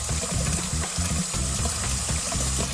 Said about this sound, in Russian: Так, воду я набрал.